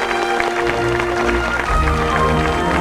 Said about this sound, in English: The mayor hangs a medal around David's neck. George and Betty smile and Mr. Johnson claps vigorously.